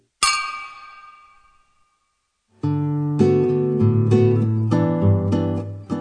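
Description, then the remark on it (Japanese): Glasses of ginger ale clink once in a toast, a bright ring that fades over a second or so; after a short silence, loud instrumental music starts and continues. “はい、 一緒にね、うん、はい、じゃあ乾杯。 乾杯。”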